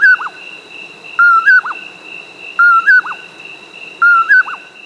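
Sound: common poorwill call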